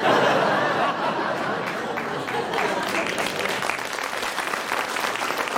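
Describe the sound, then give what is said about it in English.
A crowd claps steadily for several seconds, a dense, loud patter of many hands, with bits of laughter mixed in underneath. “Don't clap, she'll not like it when she hears this.”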